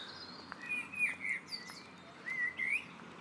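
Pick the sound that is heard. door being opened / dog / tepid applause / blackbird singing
blackbird singing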